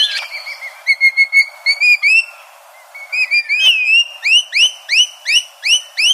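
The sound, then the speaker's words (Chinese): Rainbow lorikeet calls ring out clear: a quick run of shrill, whistly notes, a brief pause, then a steady series of rising, sweeping cries repeated in a regular rhythm, with no talking. “所以呢现在那个 Rainbow Lorikeet 就是彩虹吸蜜鹦鹉啊，在墨尔本也是属于就是数量比较多的一种鸟了。”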